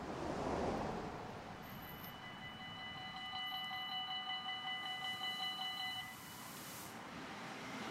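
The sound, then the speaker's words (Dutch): The last train pulls into a deserted station lit with LED spots in Beervelde with a broad, steady rumble, and high metallic brake squeals ring out for several seconds as it slows. No one speaks. “De laatste trein komt aan in Beervelde.”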